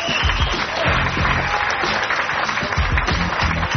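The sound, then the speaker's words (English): A conference crowd breaks into steady applause for a four-time Caribbean domino champion known as the Milkman, from the Virgin Islands: many hands clapping in a dense, loud wash that holds at an even level for several seconds without letting up. “Let's hear it for the Milkman, everybody.”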